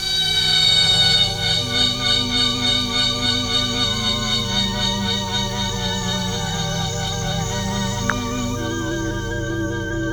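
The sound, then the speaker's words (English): A cicada's loud, continuous buzzing call, made with its tymbal organ, drones steadily for the whole stretch, unbroken, with a slightly wavering pulsing texture and no voices. “Oh, that is the sound of a cicada.”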